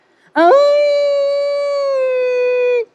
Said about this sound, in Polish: Materac skrzypiał cicho ze starości, a wilk wył w najlepsze.